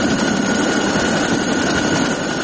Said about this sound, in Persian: هلیکوپترهای سازمان پیمان اتلانتیک شمالی یا ناتو هنوز هم بر فراز آسمان کابل گشت زنی می کند.